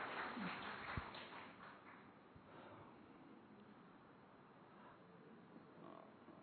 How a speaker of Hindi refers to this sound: तो भाई जी को रिक्वेस्ट करती हूँ और वापिस एक बार जोरदार तालियों से भाई जी का स्वागत।